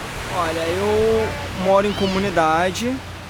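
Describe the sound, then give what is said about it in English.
A steady wash of beach surf at Leblon beach fills the background while voices call out in drawn-out, sing-song tones over it. “… is one of hundreds of beach vendors who make a living catering for the bathers' comfort here at the Leblon beach”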